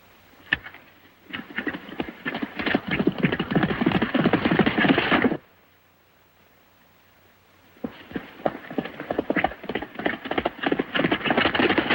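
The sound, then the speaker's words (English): Horse hooves clip-clop in a ranch yard as a horse is saddled, a busy, irregular patter of steps that runs for several seconds, stops briefly, then starts up again. “Rod finds another horse in the yard and begins to saddle up.”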